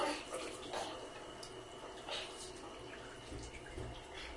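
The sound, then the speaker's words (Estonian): A tap runs steadily with a continuous, hissing splash of water, even in volume, to wash a child, with brief faint voices in the background. “Ütle, kui vesi on paras ja kui ei ole.”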